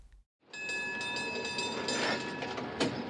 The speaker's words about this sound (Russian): Наконец подошел трамвай.